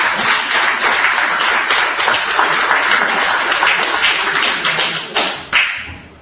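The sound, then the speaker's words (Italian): An audience at a book presentation applauds steadily for several seconds, a dense crackle of many hands clapping at once with no voices over it, thinning slightly toward the end with a few louder individual claps. “Perché veramente bello un applauso.”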